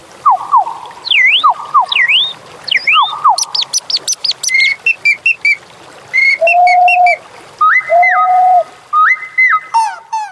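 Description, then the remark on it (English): A lively sequence of whistled, birdlike calls: swooping chirps, rapid trills and held warbling tones in quick, uneven bursts, loud with no other sounds, an imaginary bird from the Imaginary Birds sound library, made with bird calls, musical instruments, voice and whistling techniques rather than real birds. “was made with bird calls, musical instruments, voice, and whistling techniques. No actual birds were consulted.”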